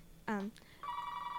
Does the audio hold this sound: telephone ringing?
yes